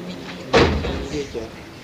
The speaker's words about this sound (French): Il faudra la fermer, cette porte.